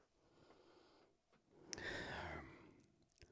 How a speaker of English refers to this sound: I need some of the weird soaking liquid here. Okay. Something's got to be terrible about this. Okay. This is a sip because it's liquid.